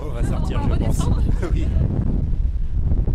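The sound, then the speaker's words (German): A wind tunnel used for tests on scale models blows cold air in a loud, steady roar with a deep rumbling rush that stays constant throughout, with a voice faintly audible over it near the start. “Hier hält man es nicht lange aus, es wird schnell kalt.”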